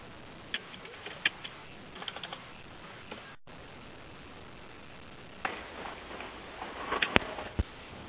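Soft tapping of keys on a computer keyboard as someone types into a chat box, in two irregular bursts with a brief pause between, the clicks light and uneven against a faint background hiss.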